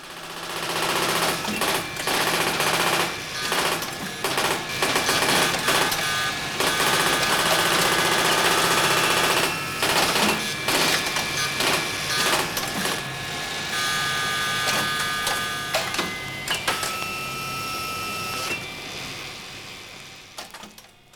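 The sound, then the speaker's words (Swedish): A computer's line printer chatters in loud, rapid bursts over a steady whir of rectifiers, fans and machinery, with brief pauses between the clattering runs and a few sharp high tones. “Ett knatter från radskrivaren överröstar då och då bruset från likriktare och fläktar.”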